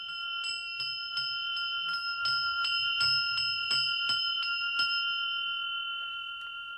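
A small Valdai-type ("Dar Valdaya") coach bell is shaken, struck about a dozen times in quick, uneven succession, its bright sustained ringing piling up clear before fading out alone at the end.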